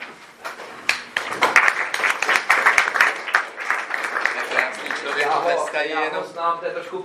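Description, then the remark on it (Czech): A crowd claps steadily for several seconds as a parish priest rises to give a lecture, a dense patter of many hands filling the room, before a man's voice starts speaking as the applause fades toward the end. “Já jsem právě chtěl říct, člověk se jenom zvedne a už mu tleskají, že?”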